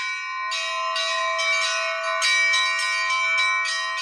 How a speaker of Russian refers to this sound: Звон импровизированной переносной колокольни слышен за несколько километров.